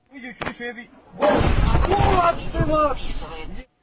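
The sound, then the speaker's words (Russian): A voice speaks briefly, then a loud, sustained roar of night-time shelling in Ukraine erupts and rumbles for a couple of seconds, with excited voices audible over the blast. Russian cruise missiles struck an American company in this attack. “Очередной ночной обстрел Украины, скажете вы.”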